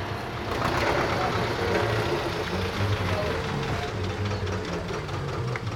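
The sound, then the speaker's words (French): A farmer's tractor engine runs steadily, a continuous low rumbling drone with a rattling, knocking texture that holds at an even loudness throughout, with no voices. “Voilà, donc on vient de sauter du tracteur du camarade paysan.”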